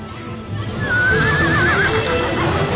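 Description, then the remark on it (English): A horse whinnies loudly as it is being taken away, a wavering high cry lasting about a second, over a busy rumble of movement and faint hoofbeats. “You're stealing my horse!”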